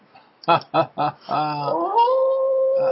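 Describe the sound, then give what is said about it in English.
Dogs give three quick yelping barks, then break into a long, sustained howl that slides upward and holds, clear with no talking. “I'm telling you, I have more trouble with those wolves. Keeping those wolves in line.”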